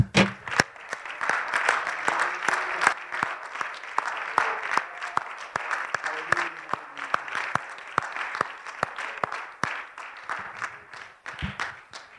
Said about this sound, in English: Can we give God a hand clap of praise?